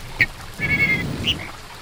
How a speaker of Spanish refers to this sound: ¿Sabés lo que es? Es un pájaro, pero pará, déjame ver. No, no. Es una calandria